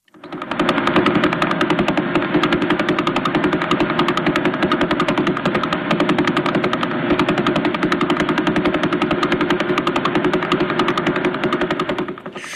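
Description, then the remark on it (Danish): Sonified signal of a slowly rotating pulsar: a rapid, unbroken train of clicking pulses that merges into a rough, rattling drone, holding steady in loudness for about twelve seconds with no voices. “Det var en, der svinger langsomt rundt om sig selv, og så, hvis den så kaster mere gas af sig, så går det endnu hurtigere.”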